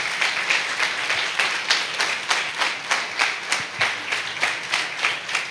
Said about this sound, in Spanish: Vamos a darle un aplauso a todas estas personas.